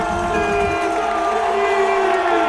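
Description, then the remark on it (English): A large crowd cheers and applauds loudly and steadily, with scattered whoops and shouts rising above a constant wash of clapping and noise, as cyclist Vincenzo Nibali finishes a Giro d'Italia stage in Verona, entering the pink finishing ramp. “Verona è qua in fondo, sta per fare il suo ingresso su questa passerella rosa, fatevi sentire, applaudite, Vincenzo!”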